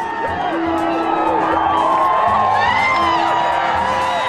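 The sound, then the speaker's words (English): A loud, dense crowd on a beach cheers and whoops continuously, welcoming 64-year-old swimmer Diana Nyad from the water after her swim from Cuba to Florida, with overlapping shouts and excited voices forming a sustained roar of celebration. “She staggered from the water with advice for a welcoming crowd on the beach.”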